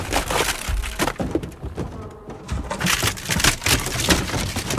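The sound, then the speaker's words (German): A heavy crash as Benjamin the elephant goes through the wooden door of Herr Tierlieb's zoo office, with loud splintering, cracking and crunching timber that continues in dense bursts for several seconds, no voices. “Benjamin, 100.000 Mal habe ich dir gesagt, du sollst nicht durch die Tür gehen.”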